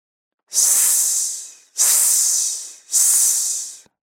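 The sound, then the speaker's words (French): A voice imitates a snake's hiss with three long, loud sibilant bursts, each fading slightly before a brief pause, with no talking. “Siffle le serpent.”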